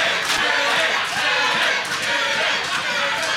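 A large crowd shouts and roars together in a loud, continuous wall of voices, with brief surges of louder yelling rising out of the steady din throughout.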